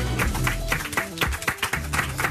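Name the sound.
studio audience applause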